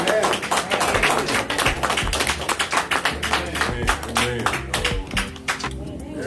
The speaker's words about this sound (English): Amen. Let's give her another hand clap of praise.